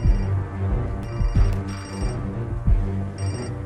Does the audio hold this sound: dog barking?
no